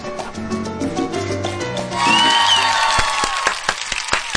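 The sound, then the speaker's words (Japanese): A crowd breaks into applause and cheering for a two-person conversation play, a dense rush of clapping that swells after a couple of seconds with a whoop riding on top, then sharp individual claps as it thins out. “初めて拍手が入ったよ。”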